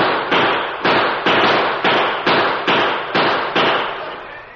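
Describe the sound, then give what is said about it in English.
A rapid volley of about nine loud gunshots in a gunfight among the rocks of a steep canyon, where a sheriff is hit. Each is a sharp crack with a short ringing decay, fired in a steady, slightly uneven rhythm with no voices. “As they set themselves for their first shot, they heard the sheriff cry out.”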